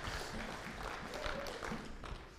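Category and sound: crowd, applause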